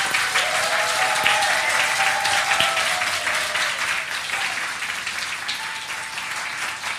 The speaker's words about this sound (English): And I think our children have told it beautifully. So I think maybe our children deserve a round of applause.